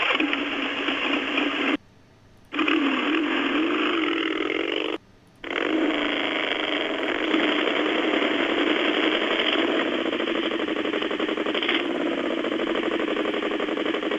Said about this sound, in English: This is it. Revving, right?